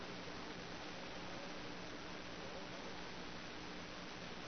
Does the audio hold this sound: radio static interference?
yes